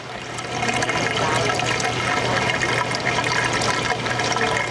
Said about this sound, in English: As water flows into one of the tanks, … says this warehouse may be too small to repopulate the world's third largest reef.